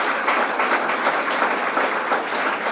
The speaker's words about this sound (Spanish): Dale un aplauso a la santidad, a la santidad.